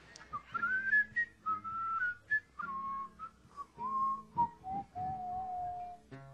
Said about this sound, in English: See, you can't do because I'm whistling a fifth out and you're whistling in the melody.